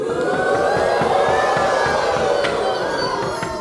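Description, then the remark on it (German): A large crowd chants and shouts outside a castle in a steady, continuous roar, many voices blending into a loud, sustained mass that grows louder, with faint rhythmic pulses running through it. “Zu allem Überfluss wurden die Chöre des Schreckens vor dem Schloss jetzt immer lauter und lauter.”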